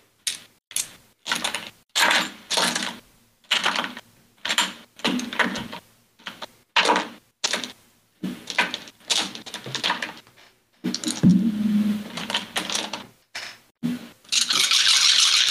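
Many dice, rolled for 10d8 cold damage, clatter and rattle in quick bursts, rolling and clicking repeatedly against a hard surface, with brief pauses between handfuls and a longer sustained rattle at the end.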